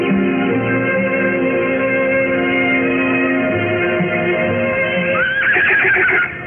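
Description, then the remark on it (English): A horse named Bo whinnies loudly for several seconds as it is readied for a ride, a steady harmonic cry that rises near the end into a high, quavering neigh before cutting off. No one speaks. “Ooh, easy, Bo, easy. He'll simmer down, Amanda, once we get going.”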